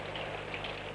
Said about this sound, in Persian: نگاه کنی بارون داره به هم میاد. نگاه کنی اونجا رو، ابرا رفتن کنار، داره یواش یواش آفتاب میشه.